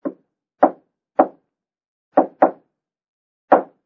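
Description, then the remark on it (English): Knocks on a door in a deliberate pattern: three evenly spaced raps, a pause, a quick double knock, then one final rap. Clear, with no voices. “After you have had glass tested for fingerprints, you will return to living room, knock on door this way.”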